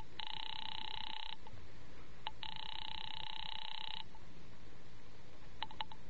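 A telephone ringback tone heard over the line while calling a bookie joint: two long, buzzing rings separated by a pause, fairly loud and steady, followed by a few short clicks near the end. No one speaks.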